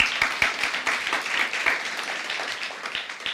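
An audience applauds a live musical guest on the program Philosophy Talk, many hands clapping steadily in a dense, crackling wash with sharper individual claps standing out, holding a fairly even loudness throughout.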